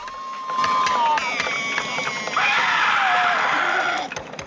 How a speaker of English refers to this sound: A fire burns brightly on the beach, and the boys play freely amongst themselves. Some of them hit wood with sticks. Another shouts in a state of trance, then grins and screams.